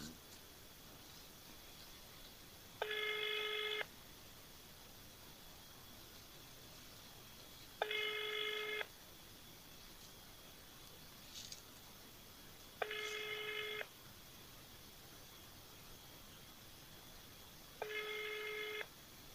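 A telephone ringback tone sounds four times during a call to the reception of a housing and utilities office in Biysk. Each tone is a roughly one-second buzz followed by about four seconds of quiet, clear and steady against a faint hiss, with no one picking up.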